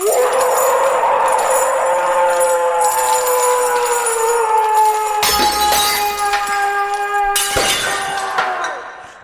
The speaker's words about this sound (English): This is entitled Monster Breaks Window. I mean, come on, man. Monster breaks window.